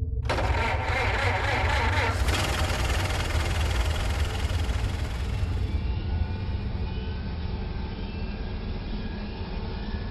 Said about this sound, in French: Pilote, démarrage, puis moteur à 15% en avance lente.